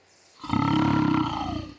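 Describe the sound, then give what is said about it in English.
A lion gives a single deep, growling roar that swells in and holds for over a second before fading, loud, with no voices alongside it. “I'm putting the oldest animal on the ground, between the road and that small lake. It's the lion.”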